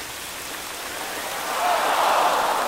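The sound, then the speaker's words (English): A big fountain in City Hall Park, New York City, gushes with a dense, steady hiss of water shooting 50 feet into the air, like heavy rain, swelling noticeably louder halfway through and staying full to the end. “Yeah, they turned a big fountain on and...”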